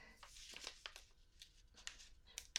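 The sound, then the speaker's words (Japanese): Soft papery rustling and crinkling, a series of brief crisp handling sounds ending with a sharper tap as a sheet of paper is set down on a desk. “あのね、この紙を机の上に置いておくから、”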